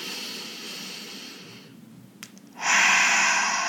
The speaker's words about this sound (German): Das Erste ist immer atmen. Schritt 1 ist immer atmen. Weiter atmen und vor allem tief und langsam ein- und ausatmen.